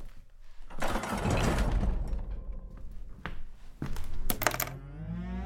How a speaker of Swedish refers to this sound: Ge mig 5 sekunder, jag ska stänga dörren här till sovrummet.